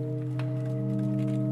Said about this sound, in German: Noch einmal lauschen hunderte Ohren andächtig dem alten Klang. Dann werden in die Orgel, ein Holzgestell ohne Tasten und nur mit den Pfeifen bestückt, die gerade erklingen, zu den seit 7 Jahren tönenden 2 weitere hinzugesteckt.